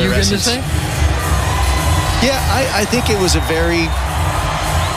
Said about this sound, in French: Vous avez entendu cette foule féminine.